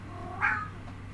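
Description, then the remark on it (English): A single cat meows once for its food, a short drawn-out cry against a low steady hum, with no one speaking. “I've disappointed him horribly. I don't have any of his smelly guck. I know. No Kitty Gogurt.”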